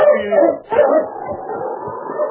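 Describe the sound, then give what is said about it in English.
A sled dog team barks and yips together in a dense, excited chorus, with overlapping high cries and short yelps running continuously. “King and the dog team had quieted down, and the only sound was the crunching of the sled.”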